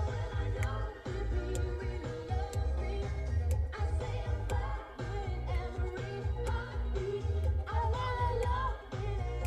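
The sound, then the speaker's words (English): Saxophone music plays steadily and fairly loud, a melodic line riding over a driving beat with sharp percussive hits, continuing without pause and with no one talking over it. “Love that sax.”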